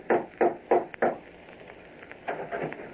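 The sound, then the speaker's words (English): Four firm, evenly spaced knocks on the wooden door of a house one evening, in quick succession, followed by a pause and some softer, muffled rustling sounds. No one speaks. “One evening, he decided to call on Bob, went to his house, and rapped on the door.”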